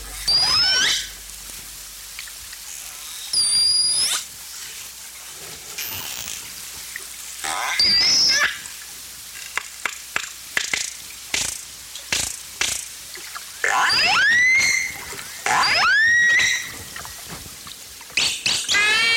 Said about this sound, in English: So from a very deep sound to quite a squeaky one, let's hear the orca.